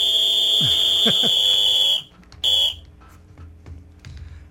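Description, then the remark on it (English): A smoke alarm that is going bad, with one of its batteries not working, gives a loud, shrill electronic tone held for about two seconds, then a short second beep after a brief pause, with faint background noise underneath. “That sounds more like a smoke alarm that's going bad. that one of the batteries isn't working.”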